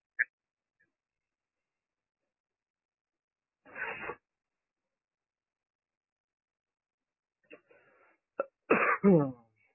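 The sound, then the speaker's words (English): Someone sneezes twice: first a short, breathy burst, then after a long pause a louder, fuller sneeze with a voiced release. “Oh, bless you.”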